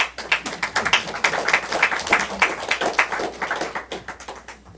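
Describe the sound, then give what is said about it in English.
An audience breaks into applause, many hands clapping in a dense, crackling patter that holds steady for a few seconds, then thins and fades toward the end. No one speaks. “You can clap for that.”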